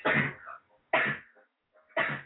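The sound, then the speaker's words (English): A boy coughs three times, each cough a sharp, harsh burst about a second apart, fairly loud, with brief silences between and no talking. “The boy coughing, no, no, no, no.”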